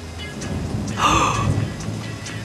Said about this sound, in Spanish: ¡Uy, qué largo todavía sigue! Mira, acá está claro, en la zona costera ya habían empezado hace un buen rato. Y acá ya llegaron los truenos también.